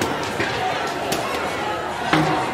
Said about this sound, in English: They've stopped in front of Atlanta Police Foundation headquarters. People are throwing stuff at the windows and doors.